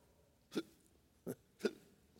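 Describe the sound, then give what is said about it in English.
A voice imitates drunken hiccuping and belching: three short, sharp gulping bursts, the first alone and the last two close together, fairly close and clear against a quiet background with no speech. “I thought they were sobbing. They were hiccuping and belching.”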